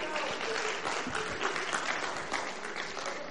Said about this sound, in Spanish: Bien. Un aplauso para él.